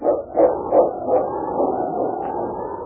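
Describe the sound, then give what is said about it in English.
King, a massive dog, barks four times in quick, steady succession above a snowy ravine, the deep woofs muffled, then fading into a low, continuous rumble. “The massive dog gazed down at the ravine where his master had disappeared into the snowdrifts. And then, barking his determination, King turned and raced down the trail.”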